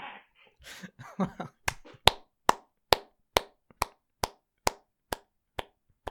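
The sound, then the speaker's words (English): A brief murmur, then a slow, steady golf clap: about a dozen light, evenly spaced hand claps, roughly two per second, each crisp and sharp, continuing to the end. “Ah, the gentle golf clap of the young Zoomer.”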